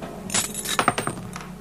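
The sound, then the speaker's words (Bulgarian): A small golden key rattles and clinks as it tumbles out of a small upturned agate jar: a quick cluster of bright, sharp metallic taps that gradually thin out, with no voices. “Нещо в нея дрънка. Обърни я с гърлото надолу.”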